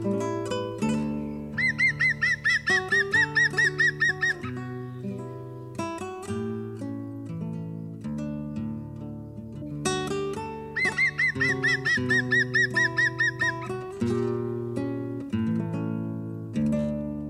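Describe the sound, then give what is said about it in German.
A European green woodpecker gives its laughing call, a rapid run of bright, ringing notes, twice over a layered musical backing that carries through the whole clip. “Das war der Grünspecht.”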